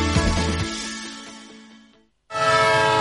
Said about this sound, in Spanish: Un tren que se va.